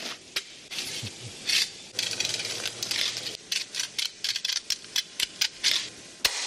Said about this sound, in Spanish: Lo que suena es el ronqueo, que es el sonido del cuchillo recorriendo las espinas del atún.